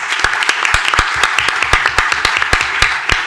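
An audience applauds, a dense steady patter of many hands clapping with sharper individual claps punching through at an irregular rhythm, fairly loud and without any talking.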